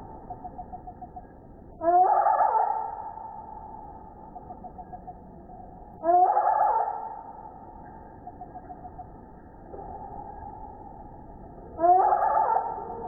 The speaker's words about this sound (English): But remember how fast hummingbirds move? To make any sense of how the birds fought, Rico had to slow the tape way down.